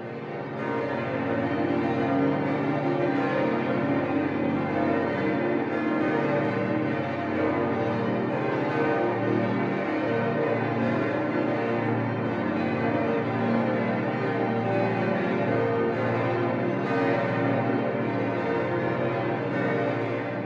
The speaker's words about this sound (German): Zusammen mit den 8 hell klingenden Perner Zimbeln von 2008 ergibt das Bayerns glockenreichstes Kirchengeläut. Die über 9 Tonnen schwere, in G0 gestimmte Salvatorglocke trägt die Weihnachtsbotschaft: Christus, Retter der Welt, komm in Frieden.